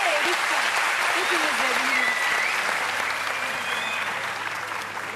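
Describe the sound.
Sustained audience applause, a dense steady wash of clapping that holds strong for several seconds before easing slightly, with faint voices and whistle-like tones mixed in underneath.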